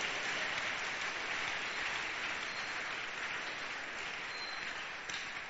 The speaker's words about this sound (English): And the expression of joy and gladness. So go ahead and give the Lord the loudest clap offering. I'm glad.